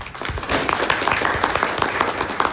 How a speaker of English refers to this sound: so good job, guys. Round of applause.